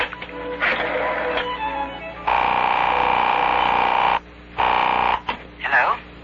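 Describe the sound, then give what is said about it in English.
A telephone, picked up with the left hand, being dialed: loud, steady electronic tones buzz in long bursts, broken by short gaps, ending with a brief warbling, voice-like sound. “Now, with my left hand, I'll just pick up this phone. I'll put it down and dial.”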